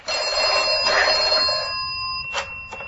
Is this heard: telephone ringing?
yes